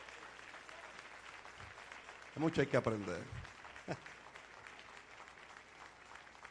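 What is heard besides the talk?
audience applauding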